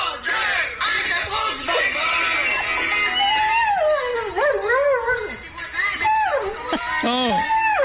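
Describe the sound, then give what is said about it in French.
A dog staying at a boarding kennel howls along to its owner's song on the radio, its long wavering cries rising and falling while the song plays steadily underneath. “faut qu'on vous fasse écouter le chien de … qui est en pension à quel endroit en ce moment?”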